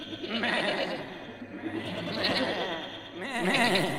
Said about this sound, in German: Ich muss die Ziegen aus dem Stall lassen, sonst verhungern sie.